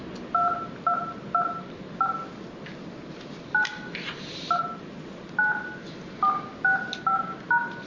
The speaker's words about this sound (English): Welcome to the meeting. Please enter a meeting ID and press pound.